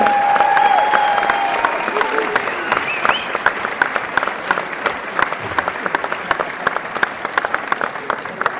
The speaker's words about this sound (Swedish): Kära gourmeter och gourmander, mina damer och herrar. Det är hög tid för prisutdelning av Årets kock 2015. Låt oss ge en varm applåd för våra konferensier.